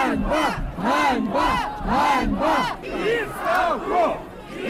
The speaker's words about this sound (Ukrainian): до людей, які вигукували відставку і ганьба